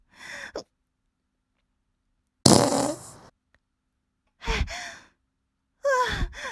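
A series of four fart noises, fairly loud, separated by short silences. The second is the longest and rasping, and the last two are shorter, with sputtering, wet bursts.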